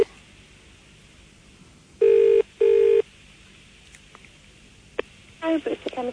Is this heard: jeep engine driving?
no